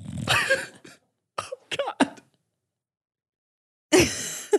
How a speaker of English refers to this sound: Buckley is snoring. I was hoping you couldn't hear it. Everyone can hear it.